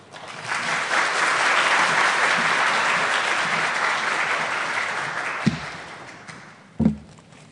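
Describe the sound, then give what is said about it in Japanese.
Steady audience applause welcoming a speaker to give a church message, a dense wash of many hands clapping that holds for several seconds, then fades out, with two sharp thumps near the end. “拍手でお迎えいたしましょう。”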